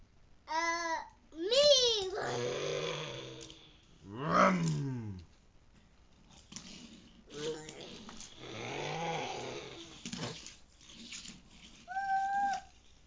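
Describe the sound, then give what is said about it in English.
A young child's voice imitates a race car engine, making a series of rising and falling revving and roaring sounds in short bursts with pauses between. “Let's hear the race car.”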